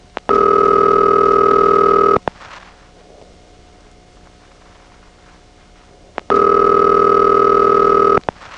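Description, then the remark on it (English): A telephone exchange ringing tone heard down the line after the incoming call is cut through: two long, loud, steady tonal bursts of about two seconds each, separated by a quiet gap of faint line hiss, with clicks at each start and stop. “Then we have the incoming advance, cut through, and it's already ringing.”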